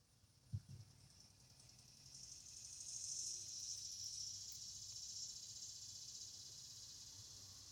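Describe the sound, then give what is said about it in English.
Cicadas drone outdoors in the morning in a steady, high-pitched buzz that swells after a couple of seconds and holds on evenly, fairly faint, with a soft thump near the start and no talking. “As we are serenaded by the cicadas”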